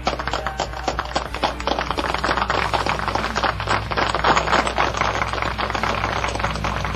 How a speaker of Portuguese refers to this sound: Uma salva de palmas pra ele agora.